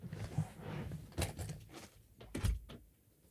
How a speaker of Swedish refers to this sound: Jag tror att det är någon som knackar på dörren på studion.